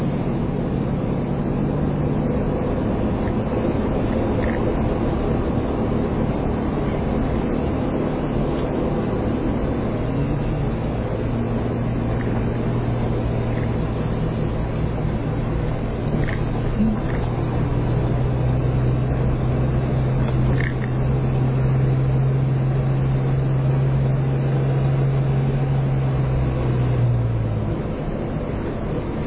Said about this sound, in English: I wish the engine was quieter.